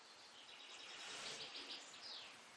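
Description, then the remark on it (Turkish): Birds singing: a steady stream of high, thin chirps and trills over a soft hiss that carries on throughout, with no talking. “Maşallah, şu kuşun sesine bak.”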